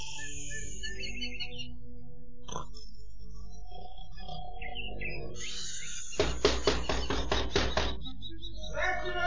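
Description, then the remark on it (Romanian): Two brothers asleep on a wooden bench near midnight snore loudly, a rattling snoring with a rough, buzzing rhythm of rapid pulses, after a stretch of softer whistling, wheezy breathing noises. “Și acum, după cum auziți, sforă de parcă ar avea zbârnitori în nas.”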